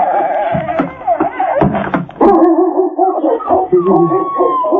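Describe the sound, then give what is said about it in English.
Puppies yip and whine in high, wavering cries, joined by a dog's barking, all fairly loud, with the overlapping calls continuing throughout. “These little puppies will be nice little puppies.”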